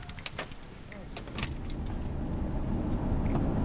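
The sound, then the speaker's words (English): Someone climbs into a truck: a few quick clinks and thumps, likely keys and a door, then a steady low engine rumble builds and fills the cab. “Back in the truck”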